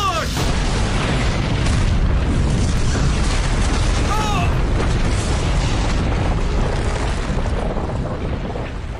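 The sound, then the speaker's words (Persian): A powerful C4 explosive blast, heard as a loud, deep, sustained roar of rumbling debris that fills the whole stretch without letting up, with a few faint high cries briefly breaking through midway. “فکر کنم صدای انفجار شنیدم. وای، یعنی یه سی فورم تو کار بوده.”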